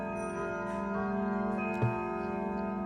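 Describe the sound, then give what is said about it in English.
An antique clock that keeps track of the day of the week and the moon cycle chimes, its bell tones ringing steadily with rich, layered overtones throughout, and a soft thump near the end. No one speaks. “This is the actual clock, and it is beautiful.”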